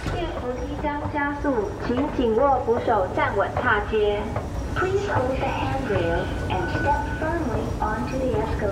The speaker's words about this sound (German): Am Tag nach unserer Exkursion an die Ostküste fahren wir mit der U-Bahn zur Station NTU Hospital.